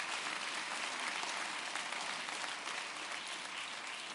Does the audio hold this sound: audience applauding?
yes